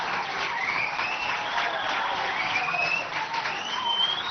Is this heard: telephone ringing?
no